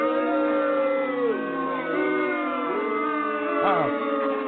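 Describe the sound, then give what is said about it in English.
A crowd shouts and whoops all at once, many voices overlapping in a steady loud roar, with a sharp rising and falling whoop near the end. “The crowds are restless here.”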